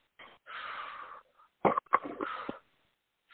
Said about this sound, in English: Real deep. I want to hear you breathing.